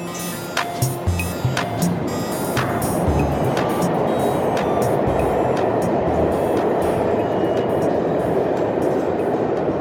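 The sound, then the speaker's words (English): A New York subway train roars past, opening with a few sharp metallic clanks before settling into a loud, steady rumbling rush of wheels on track, with no voices. “lives in Brooklyn and works in Manhattan, and so he spends a lot of his time riding the subway and waiting for the subway.”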